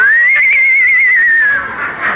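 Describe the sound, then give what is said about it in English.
A Mexican horse lets out a loud whinny, a single high wavering call that holds steady and then trails off into a breathy snort at the end. “So you're a Mexican horse, eh?”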